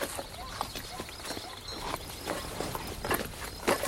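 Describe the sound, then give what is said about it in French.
Horses' hooves clop along at a walking pace, an irregular run of muffled thuds over a steady background hiss, with faint voices mixed in. “Venez, nous allons faire reposer les chevaux.”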